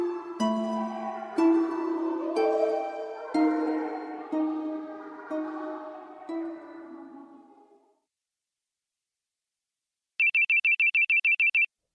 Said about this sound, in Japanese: 電話が鳴っている。それは何度も何度も数限りなく聞いた懐かしい携帯電話の音だった。それは僕が初めて持ったガラケーの音。